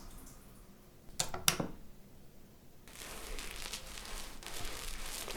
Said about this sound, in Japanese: じゃあボディーソープで泡立てるぞ。